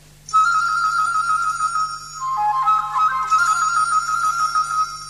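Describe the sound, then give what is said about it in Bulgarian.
A canary imitating a nightingale, its song coming from a shop: bright, sustained whistled notes held at a steady pitch, briefly dipping lower midway before rising back, loud and continuous over a low steady hum, with no voices. “Е канарче, което подражава на Славей.”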